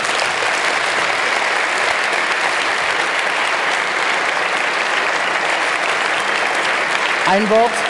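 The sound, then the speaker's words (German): Steady, sustained audience applause for a speaker at the end of a talk fills the whole stretch, a dense wash of many hands clapping at an even loudness, with a voice starting to speak faintly at the very end. “Gebt ihm einen herzlichen Applaus.”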